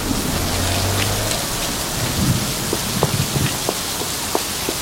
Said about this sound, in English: Now Manana gets out of a cab. She runs through pouring rain to her building.